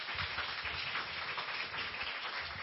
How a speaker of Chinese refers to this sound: 我们拍手热烈欢迎他。